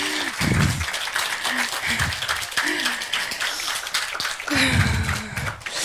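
An audience applauds steadily, a dense wash of many hands clapping at once, with a few low bursts of cheering and voices rising under the clapping.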